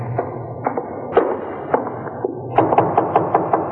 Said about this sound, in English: Let him knock again.